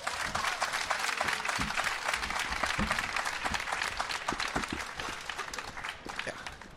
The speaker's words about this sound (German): Begrüße mit einem ganz großen und vor allem richtig Heavy Metal und Poetry Slam würdigen Applaus